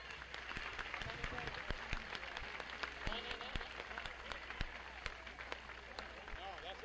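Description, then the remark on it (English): A crowd applauds a performer at a stage show in a steady, dense patter of overlapping claps with some sharper individual hand claps, while a murmur of voices runs underneath throughout. “He's having a good round of applause for him.”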